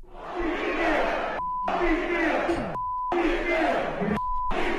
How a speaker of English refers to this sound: And then there's also now footage of … performing, and he has the whole crowd chanting this.